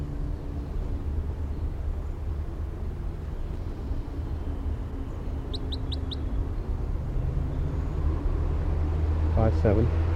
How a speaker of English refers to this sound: The recording is the wild bird with filter 3 on. Very weak. It's kind of windy right here now.